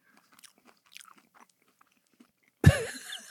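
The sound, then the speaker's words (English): Soft crunching and clicking as people chew a biscuit from Spain, scattered irregularly over a few seconds, followed by a sudden loud burst of voice-like sound at the end. “So we are now partaking of the biscuit. All the way from Spain.”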